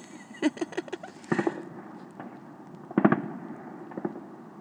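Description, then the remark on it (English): Fireworks crackle and bang outside, a quick series of sharp pops followed by a louder cluster of big bursts, with a steady background hiss. “I don't know if the really big ones are part of a public display.”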